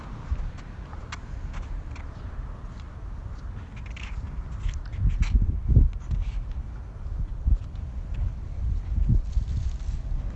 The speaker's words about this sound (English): I hear rustling of branches.